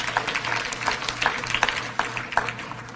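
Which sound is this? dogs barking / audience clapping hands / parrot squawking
audience clapping hands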